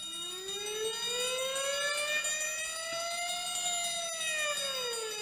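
A fire engine siren wails in a long, slow rising and falling sweep, loud and steady throughout with a faint low rumble beneath, no voices present.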